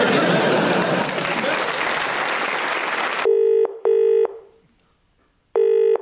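Loud applause fills the first half, then cuts off abruptly, followed by three distinct telephone keypad beeps, two in quick succession and one after a short pause, clear and close.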